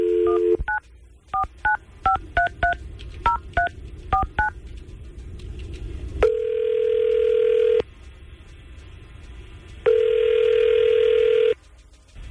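A phone call from the Tampa Bay's Morning Crew radio show at 99.5 QYK to a listener: a brief dial tone, then a quick run of about ten touch-tone beeps as the number is dialed, followed by two long, steady ringback tones with a pause between. No one speaks.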